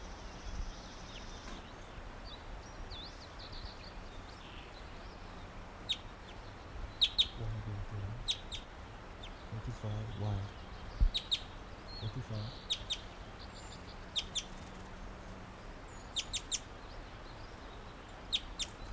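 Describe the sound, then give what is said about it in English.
Short, high-pitched chitters of a wild bird flying back up to the low branch of a tree come in quick clustered bursts of sharp notes, repeating irregularly over a soft steady background hiss, with brief low murmurs in the middle. “That was him chittering back up to the low branch of a tree.”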